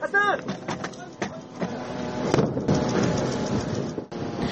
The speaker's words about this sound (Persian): برای دومین روز پیاپی در غزه روز چهارشنبه صدای انفجار شنیده شد.